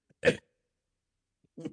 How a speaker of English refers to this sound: We're making you cough. No, it's just a left elbow. That's, I feel perfectly fine, but I sound like I'm dying. I'm not.